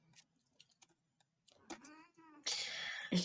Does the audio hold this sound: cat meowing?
yes